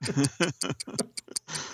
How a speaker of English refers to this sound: Do I hear ticking? Ah, thank goodness, yes. Once again, it's the dulcet tones of the Doom Clock.